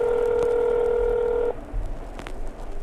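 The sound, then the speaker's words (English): A phone rings with a steady electronic tone that holds for about a second and a half, then cuts off abruptly, leaving faint background noise and a couple of soft clicks. “I froze as my phone rang.”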